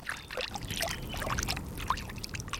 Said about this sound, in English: Most people's favourite sound is water. And we tend to like all kinds of different water sounds. Trickling streams is, as a nation, our favourite one.